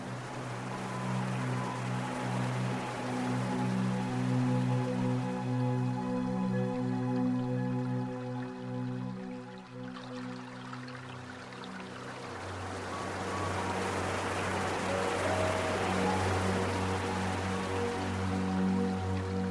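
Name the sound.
water dripping and trickling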